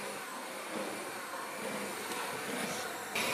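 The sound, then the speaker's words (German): An electric hand mixer fitted with dough hooks mixes dough, running loudly and steadily, a dense whirring motor drone with a rough hissy edge that holds constant throughout, briefly rising a bit at the very end. No one speaks. “Ganz gut, nur der Mixer ist sehr laut.”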